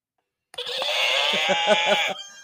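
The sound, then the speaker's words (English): A horse whinnies once, loud, a bright shrill call that breaks into a fluttering, shaky end and stops abruptly after about two seconds. “That was a horse.”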